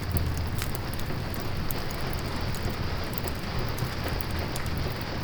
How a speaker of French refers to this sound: Les jours de mauvais temps, blottis ensemble sous une couverture, nous écoutions la pluie teinter sur les carreaux.